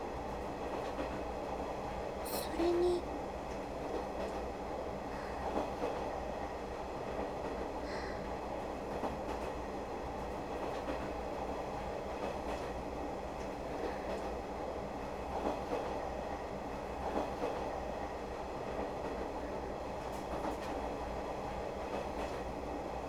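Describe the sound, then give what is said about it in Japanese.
A train rolls along with a steady, dense rumble, wheels clacking over rail joints beneath the noise, plus a few brief higher clicks and squeaks early on. “ジョイントーン、カタンコタンってギャンクリアにいつも聞こえてくれるなら、イオン検知もめちゃくちゃ楽になるとよね。”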